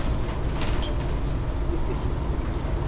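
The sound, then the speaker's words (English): Steady, loud low engine rumble and road noise from inside a moving bus, with a brief high chime near the start and no voices, as riders get ready to get off the bus. “let's get off the bus here, what do you say?”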